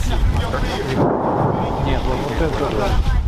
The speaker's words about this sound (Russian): 122 миллиметра минимум был переход. Да. Звук был серьезный. Пушка.